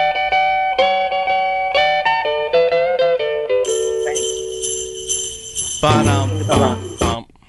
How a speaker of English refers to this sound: Which Christmas song starts with this riff? Take a listen.